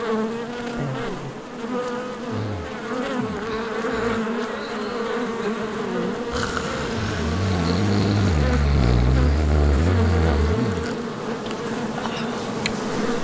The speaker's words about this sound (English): Ooh, and there's bees. Close. Oh. Wow. Here come the robo bees. Oh my gosh, I have like a scarf huge. Of bees on me.